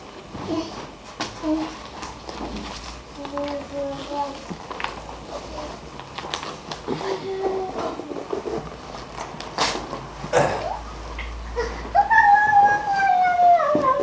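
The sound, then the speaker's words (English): A pet chews and tears at paper, making scattered crackly rips and crinkles, with faint voices and a rising, whiny vocal sound toward the end. “paper in your mouth.”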